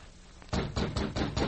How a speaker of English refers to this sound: Loosening his gun in its holster, he rapped on the door, then stepped back.